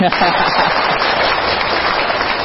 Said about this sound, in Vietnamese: À, nhưng mà còn bù lại cái nữa là ông học giỏi nhất thế giới, nên thôi cho ông về đi, phải không, thôi cho anh chào pháo tay đi.